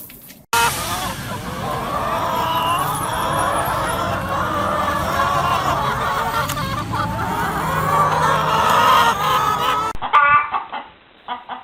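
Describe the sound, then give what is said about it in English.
A flock of rescued hens living at an address in Norfolk clucking and murmuring, a steady busy chatter of overlapping calls that runs for about ten seconds before cutting away to faint background noise. “Track 16, now to our final piece, the continuing diary of Flora and Friends, rescued chickens now living at a secret Norfolk address”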